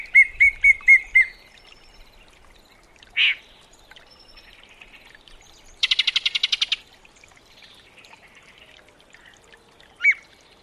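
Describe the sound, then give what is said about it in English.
A yellow-breasted chat, a 7-inch North American warbler, sings a varied, disjointed song: a quick run of five clear whistled notes, a single harsh burst, a fast rattling series, then one more sharp call, with pauses between phrases. “The loquacious chat's exceedingly varied song is not its only singular quality.”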